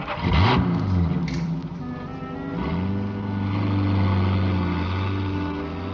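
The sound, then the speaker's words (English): A truck engine revs up, then settles into a steady, loud drone as it drives down the street. There are no voices. “I drove as she directed, till we pulled up behind a row of stores.”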